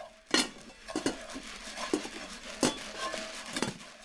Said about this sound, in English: It was my mom cooking steamed fish with soy sauce with green onions. My mom was chopping the green onions. It was loud like small rocks hitting the house.